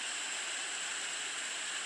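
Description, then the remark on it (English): Steady hiss of white noise static from a sleep machine called Sleep Machine, used to sleep to. It is a constant even rush with no breaks or changes in level, slightly bright and airy in tone, playing alone without any voices. “It's called Sleep Machine because for whatever reason I can't sleep to just quiet. But this is it. It's static. White noise.”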